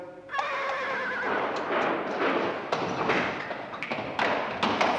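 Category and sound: animal, horse neighing and hooves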